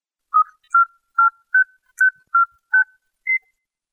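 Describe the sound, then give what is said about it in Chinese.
A telephone ringtone of eight short, clean electronic beeps in a quick, evenly spaced melodic pattern with slight pitch changes, heard clearly and alone with no voices. “我的电话呢，是命令我的手下的小鬼子，提着工具箱来给我修理呢。”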